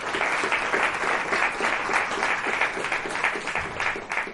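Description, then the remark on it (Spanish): Sustained audience applause for the Ateneo, a dense steady wash of many hands clapping at a fairly loud, even level for the whole stretch, with no voices standing out. “Así que dicen que para merecer lo bueno antes hay que aplaudirlo, así que un fuerte aplauso para el Ateneo por estar aquí.”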